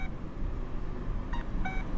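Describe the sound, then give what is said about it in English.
A pedestrian crossing signal gives a single two-note electronic cuckoo call near the end, high, then slightly lower, over a constant low rumble of street traffic; the cuckoo signals crossing the intersection from east to west. “The one that cuckoos is the one that goes off when you're going to cross from east to west.”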